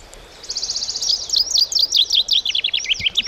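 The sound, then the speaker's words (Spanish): A male chaffinch sings a bright, descending song, starting with a rapid trill of high notes that breaks into a cascade of sweeping phrases, clear with no other sounds. “Pero una pinzona la pilla al vuelo y entiende perfectamente que dicho, ese macho que hace esos adornos más elaborados, pues es un buen partido.”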